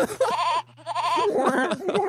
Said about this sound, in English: Let's do one more. No, I gotta hear the goat again. Hold on.